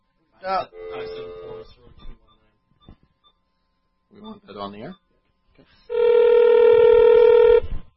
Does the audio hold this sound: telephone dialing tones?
yes